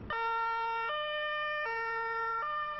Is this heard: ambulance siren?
yes